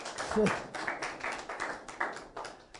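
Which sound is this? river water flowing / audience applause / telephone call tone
audience applause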